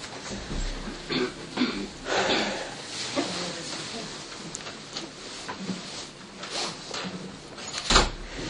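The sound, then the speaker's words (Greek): A chair being shifted across the floor: a series of scrapes and wooden knocks over several seconds, ending in a louder thump, with faint murmuring voices in the room. “Και αν θέλετε βγάλετε αυτή την καρέκλα λίγο, είναι... έχει εδώ θέση.”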